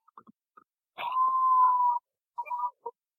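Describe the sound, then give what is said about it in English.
Coyotes howl outside a window, heard through a phone held near it: one long steady mid-pitched wail lasting about a second, framed by short yips and yelps before and after. No voices are heard. “I don't know if I've ever heard coyotes.”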